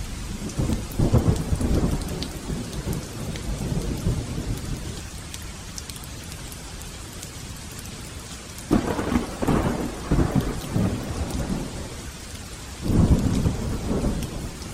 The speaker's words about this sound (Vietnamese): Trời sụp tối rất nhanh, lại trút xuống cơn mưa hung bạo, như mang đến những con rồng tung quậy lồng lộn.